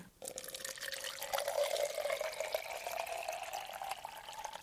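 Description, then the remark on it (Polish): Water pours steadily into a small vase made from a cut bottle, its gurgling tone rising in pitch as the vessel fills over several seconds, with no voices; the water is for cut flowers. “I tak piękniejsze są kwiaty, które za chwilę włożymy do tych wazonów, ale najpierw musimy nalać wody.”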